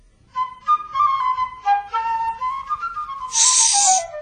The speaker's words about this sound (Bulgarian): Дойдохме със свирките си да ти посвирим.